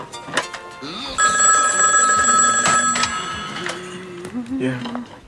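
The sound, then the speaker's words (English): A telephone bell rings loudly for about two seconds, a bright, sustained metallic jangle over murmuring voices and background noise. “Honey, we get the phone, please.”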